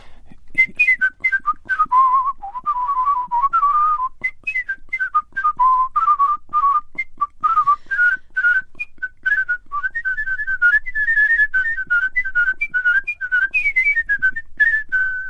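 A competition-winning whistler whistles a lively, continuous melody, with quick trills and ornamented runs rising and falling in pitch, performed solo without any talking.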